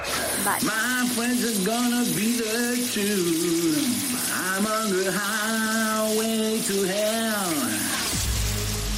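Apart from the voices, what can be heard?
shower water running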